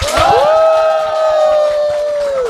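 Loud crowd cheering and clapping, led by one long, high whoop that rises quickly and then holds a steady pitch through the whole burst, with a dense patter of applause underneath.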